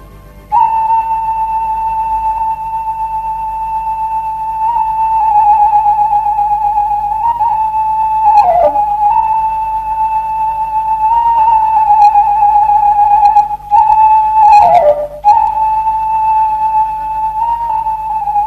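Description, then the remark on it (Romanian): A small shepherd's pipe plays a long, steady, shrill melody that hovers around one bright note, with a couple of quick pitch dips and breaths. It is loud and alone, with no talking. “Și acum ia să-ți cânt din fluieraș.”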